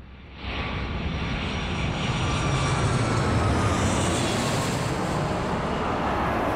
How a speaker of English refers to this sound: An aeroplane landing on a strip that's lit up by lights.